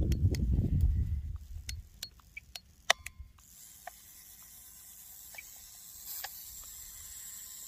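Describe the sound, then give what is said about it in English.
An anti-tank mine's spring unwinding after the key is turned: a low rumble and a run of sharp, irregular mechanical clicks, then a steady airy hiss with a few faint ticks. No talking. “The spring decompressing sucks.”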